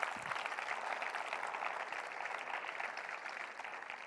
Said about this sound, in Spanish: Amén. Dale un aplauso a él. Aleluya.